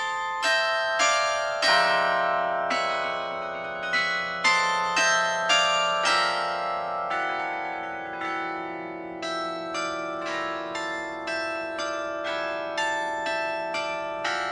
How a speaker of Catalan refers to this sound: El carilló del Palau de la Generalitat, les audicions que es presenten normalment són de dilluns a divendres, un quart d'hora a les 12 i un quart d'hora a les 6, i alguns dissabtes també, a les 12.